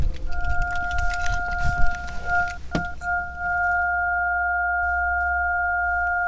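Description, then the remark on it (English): Two steady, pure synthesizer sine tones hold at different pitches, cutting out briefly near the middle with a soft thunk, then sustaining evenly over a low rumble of car background noise. “Oh yeah, we're doing synth.”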